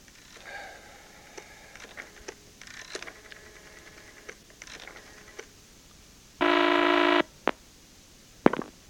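A telephone belonging to a taxi driver upstairs is dialed: a run of short clicks and faint steady tones, then a loud harsh buzz lasting under a second, followed by a couple of sharp clicks.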